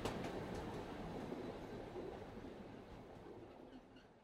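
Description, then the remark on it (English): A train rolls steadily along the rails through a mountain tunnel in Norway, a continuous loud rumble with faint clattering and a roaring, enclosed quality. No voices are heard. “This describes the first 7 minutes of a 7-hour train ride across the country of Norway.”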